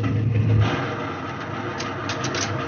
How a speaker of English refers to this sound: April 5th. A Catalina flying boat dropped out of the sky. Her wheels retracted. Her wing floats lowered.